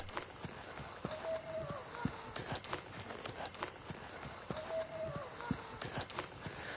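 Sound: horse hooves clip-clopping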